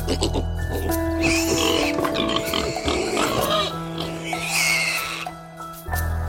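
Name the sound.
pigs grunting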